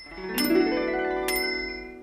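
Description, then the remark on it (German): A small bell on a blue children's balance bike rings twice, two bright metallic strikes about a second apart, each leaving a sustained shimmering tone that lingers clear with no voices. “Es war blau und hatte eine kleine Klingel, die in den Ohren des kleinen Ludwig wie Engelsglöckchen klang.”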